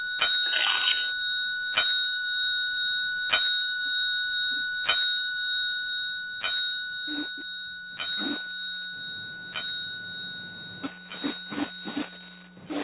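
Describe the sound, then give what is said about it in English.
A boxing ring bell tolls ten times as a ten-bell salute, in a slow, evenly spaced series of single clangs, each ringing out clearly and lingering before the next strike, with no voices over it. “That, for people that do not know, 10 Bells is a big salute in the combat world, the boxing world, the MMA world.”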